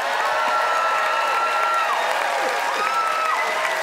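audience applause

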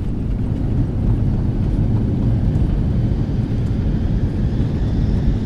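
airplane plunging

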